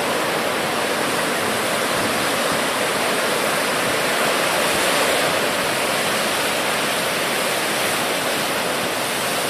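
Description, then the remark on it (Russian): Steady, loud roar of rushing water from a surfable wave churning, a dense continuous hiss and rumble without pauses or any voices. “Вот новая волна начинается, не знаю, что там получится из этого.”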